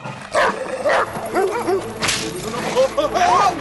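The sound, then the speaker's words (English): Several dogs on multi-leashes, being walked together, bark and yip excitedly at a rabbit in quick, overlapping bursts, mixed with higher whining yelps, loud throughout the few seconds. “The dogs on multi-leashes see a rabbit.”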